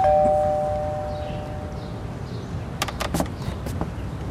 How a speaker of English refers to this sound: He takes his index finger and pushes it into the doorbell.